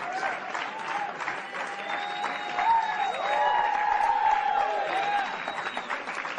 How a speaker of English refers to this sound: You're listening to crowds and applause as the Chicago Cubs walk into the East Room of the White House.